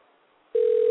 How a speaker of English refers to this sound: Hey, the phone's ringing.